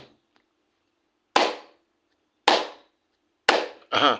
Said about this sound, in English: We'll slap the ground 3 times. Let's go.